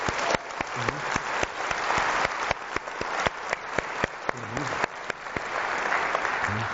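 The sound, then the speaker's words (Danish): An audience applauds steadily as a round of applause for the 100 people from three or four job-search networks, dense overlapping claps forming a loud, continuous wash with sharper individual claps popping out, and faint murmured voices underneath. “Men jeg synes lige, vi endnu en gang skal give en klapsalve til de her 100 mennesker fra de tre eller fire jobsøgningsnetværk, der har gjort alt det her muligt.”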